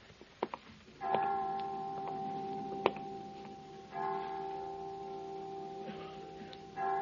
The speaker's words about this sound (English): Well, 5 o'clock. I didn't know the children's home had chimes.